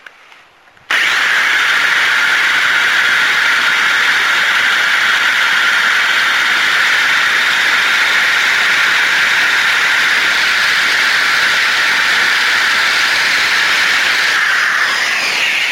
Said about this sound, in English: Damn, I think I got this dull-ass drill bit, too. Drilling through metal is not as easy as people would make it out to be, especially when you're not using the appropriate bits.